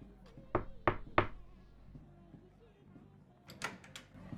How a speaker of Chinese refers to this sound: 左边，这个门。嘘，你听，晚会都开始了。好了，我去敲门。